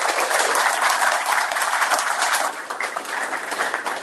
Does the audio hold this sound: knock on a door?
no